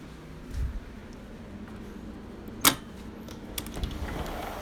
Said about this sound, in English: That was the door opening for the outside.